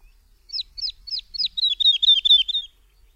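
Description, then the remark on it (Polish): A woodlark sings a clear, high phrase of four slow repeated notes, then speeds into a rapid run of repeated trilled motifs, heard alone against near silence. “Każda zwrotka składa się z 2 do 5 fraz złożonych z kilkakrotnych powtórzeń tego samego motywu.”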